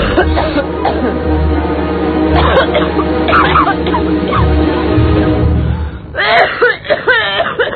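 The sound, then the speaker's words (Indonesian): Several harsh coughing bursts break out over a steady low background hum, with a rougher cluster of coughs near the end, at nearly midnight. “Tiba-tiba aku dikagetkan oleh suara batuknya Intan.”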